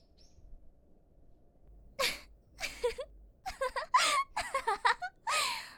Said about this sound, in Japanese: また、あんたくしゃみして。耳弱いんじゃない？